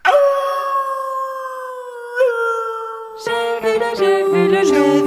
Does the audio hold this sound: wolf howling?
yes